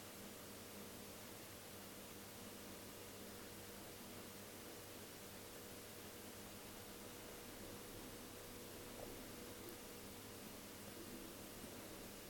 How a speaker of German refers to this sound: Oh, das ist kein Regen. Das ist ein Ventilator von meinem alten Rechner, der wahrscheinlich demnächst schlapp macht.